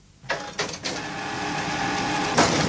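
A photocopier runs with a steady mechanical whir and hum, opening with a few quick clunks and clicks, then a brighter scanning sweep rises near the end. No voices.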